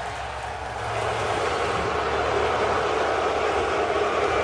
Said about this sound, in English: They just announced his name, and the crowd is booing like crazy.